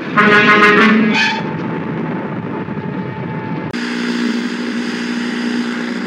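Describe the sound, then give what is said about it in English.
Stormy wind roars without pause on a stormy night, opening with a loud, whistling gust before settling into a steady, dense rush that shifts abruptly in tone partway through. No voices are heard. “Like you could hear in that clip, though, when Ellington is pleading with us to believe him, and he begins to recount his tale, it is very much a stormy night.”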